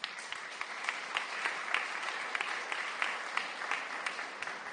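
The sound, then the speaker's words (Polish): Sustained applause from an audience at a school for the school's teachers, a dense wash of many hands clapping steadily at moderate volume, with occasional sharper individual claps standing out. “Proszę Państwa, te brawa należą się moim nauczycielom.”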